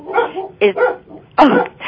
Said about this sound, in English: Sorry. I guess you hear our dogs barking? Somebody disagrees with you, obviously. No. I think that they are barking at the trash pickup. You know, they have to go out and protect us.